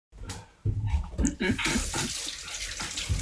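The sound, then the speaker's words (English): Water runs from a tap into a glass, a steady rushing hiss lasting a couple of seconds, preceded by a few brief muffled sounds and faint indistinct voices. “I'm gonna get a glass of water for that.”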